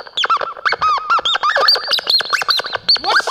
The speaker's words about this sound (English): What's that squeaking? My client speaking.